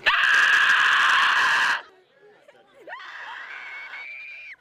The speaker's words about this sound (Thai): เสียงกรีดร้องและโหยหวนจากอาสาสมัครที่แสดงเป็นสมาชิกในตระกูลคราเวลแต่งตัวและแต่งหน้าสุดสยองโชกไปด้วยเลือดคอยหลอกหลอนผู้คนให้ตกใจแบบไม่ทันตั้งตัวในทุกซอกทุกมุมของบ้านครับ